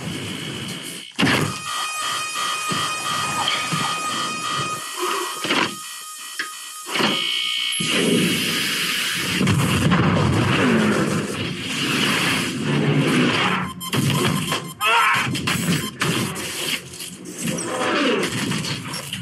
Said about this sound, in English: That's a lot of alarm sounds. Yeah. Oh, Lordy. And they all kind of sound the same.